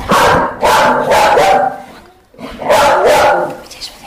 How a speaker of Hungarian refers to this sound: Stílszerűen egy kis kutyaugatással kezdjük ezt az interjút.